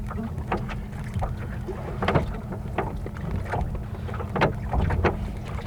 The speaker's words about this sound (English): And I'm rowing it for a bit. It seems that after I get through this section, I'll be back in the wind and can sail again. I like the rhythm of rowing.